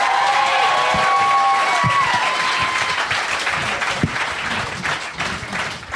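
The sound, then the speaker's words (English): An audience breaks into sustained, dense applause for a woman who came up to join the performer, holding steady for several seconds, with a few whistles and cheers rising early on before the clapping gradually eases. “Give this lady a hand for coming up here.”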